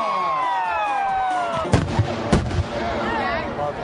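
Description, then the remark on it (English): Fireworks on a patriotic tape go off in a busy burst: whistling rockets rise, then several sharp bangs and crackles pop close together, with a faint crowd murmur underneath. “Then let the explosions begin.”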